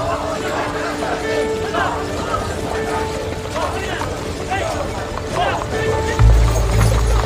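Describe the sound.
A horse-drawn carriage rolls away out of a citadel, its wooden wheels rattling and creaking over steady clip-clopping hooves, with a low rumble swelling near the end and faint murmuring voices in the background as guards keep people from coming forward.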